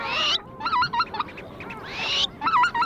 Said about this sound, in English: It's midnight, but the sun is still above the horizon, casting a golden light across the grasses and the wetlands. As far as you can hear in every direction, there are birds advertising and displaying.